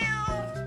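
A single cat meow, clear, with a bright harmonic tone that bends slightly in pitch over less than a second, heard on its own without any talking.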